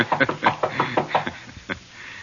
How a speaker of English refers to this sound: Do we break in, or do I pretend I'm a gentleman and knock?